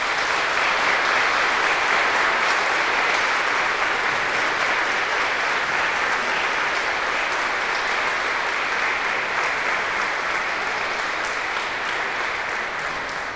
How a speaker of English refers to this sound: Now, let us show our appreciation for each of these graduates and give them a round of applause.